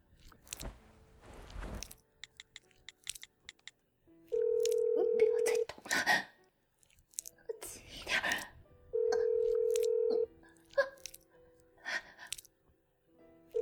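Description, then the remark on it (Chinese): Two loud, sustained electronic telephone tones ring out as someone phones their daughter. Each tone lasts over a second, and they are separated by a few seconds, amid faint rustling and breathy background sounds. “我要打电话，我要打电话告诉我女儿了。”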